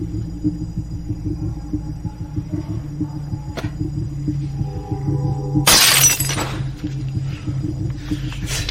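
A glass shatters suddenly over a steady low hum, a sharp bright crash with scattering fragments that tinkle for a second or two before fading back into the drone. No one speaks.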